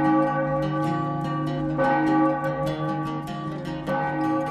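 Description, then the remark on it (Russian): A neighbouring tower clock bell strikes three o'clock with slow, resonant blows, three strikes spaced roughly two seconds apart, each ringing into a sustained, humming tone that overlaps the next. No one speaks. “Джордж прислушался, и башенные часы по соседству не заставили себя ждать.”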